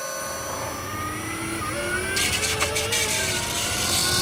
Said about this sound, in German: Wir hatten dem Auto damals aufgrund des relativ markanten Antriebsgeräusches übrigens den Titel »Singende Säge« verpasst. Wir hören noch mal kurz rein in eine Soundaufnahme bei Beschleunigung des Fahrzeugs.